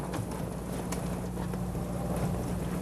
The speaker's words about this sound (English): Listen. I love the sound of rain. It's like tap dancing on my window.